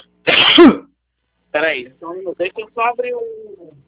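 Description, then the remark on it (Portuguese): A harsh allergic cough bursts out during a phone call, then after a short pause comes a string of rough, choppy throat-clearing sounds and hacking, like someone with an irritated throat. “Eu tô com uma tosse alérgica horrível.”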